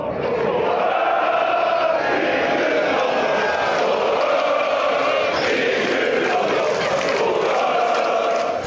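A dense crowd of sports fans roars and shouts continuously, a loud, unbroken wall of many voices cheering together with no pauses, filling the whole stretch.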